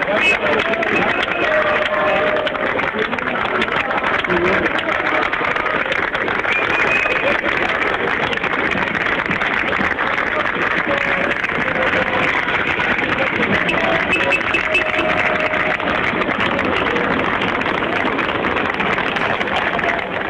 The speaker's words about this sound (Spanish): Y también es bueno preguntarle si alguno de ustedes, nuestros auditores, estuvo presente en ese lugar, en ese momento en que aplauden a la gente. Escuchemos.